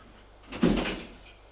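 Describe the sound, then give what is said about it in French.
At night, a furious man tries to open the locked door to his brother's room. It rattles and thumps as he pulls at it without it giving way, a short burst of knocking and shaking in an otherwise quiet space. “La porte est fermée à clé. Il essaie de l'ouvrir.”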